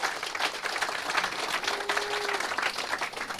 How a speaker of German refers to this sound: Einmal einen Applaus für das Log, bitte.